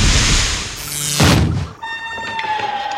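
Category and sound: household object, cellar door opening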